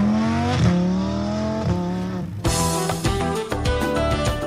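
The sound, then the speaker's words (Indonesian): Formula One race car engines scream at high pitch, rising through gears with sharp shifts, then a second surge of louder, brighter revving kicks in midway, continuous with no talking. “Dunia balap Formula One tidak mau mengubah DNA atau ciri serta sifat yang sudah tertanam dalam olahraga balap mobil yang ngetop ini.”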